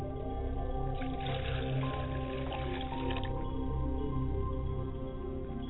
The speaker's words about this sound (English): I pour libations to the north, which is Seker, for midnight, the winter.